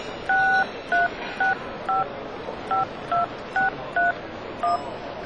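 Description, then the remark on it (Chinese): A series of nine short telephone keypad tones, each a two-pitch beep, pressed in a quick, slightly uneven rhythm over a soft background hum, with no talking, as someone dials a phone to call a person who has not yet arrived. “哦，那我打给他吧。”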